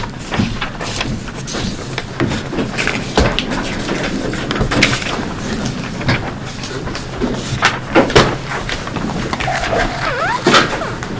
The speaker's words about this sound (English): and I'll pull another chair around here for him.